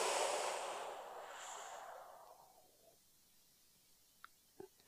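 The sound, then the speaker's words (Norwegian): A long, soft exhale of breath, broad and airy, fading out over a couple of seconds, followed by quiet and a couple of faint small clicks near the end. “Og pust ut.”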